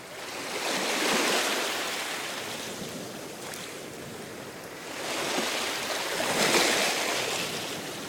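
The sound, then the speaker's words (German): Ocean surf rolling in, with two broad swells of rushing foam rising and receding over several seconds, steady, no voices present. “Lehnen Sie sich mal zurück, schließen Sie die Augen und hören Sie das Meeresrauschen.”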